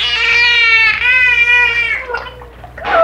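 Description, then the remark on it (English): An animal voices the word "Margaret" through its blowhole, rolling over almost into the water to muffle the sound: a loud, nasal, whining sound with wavering pitch, stretched over a few squealing syllables, ending in a burbling, watery squeak. No one speaks. “He would eventually roll over almost into the water with the blowhole to muffle the... Margaret.”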